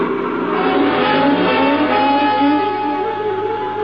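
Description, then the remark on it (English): A car engine roars loudly and steadily as the vehicle speeds away from pursuers, with a harsh, high-pitched edge like squealing tires. There are no voices. “Get going. They're after me. Hurry, please.”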